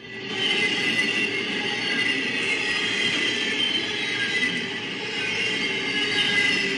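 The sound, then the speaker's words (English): A cargo train passes right in front of a car, its steady, loud roar filling the scene with a dense metallic hiss and rolling undertone, with no clear clickety-clack rhythm and no voices. “this is actually a cargo train passing right in front of the car.”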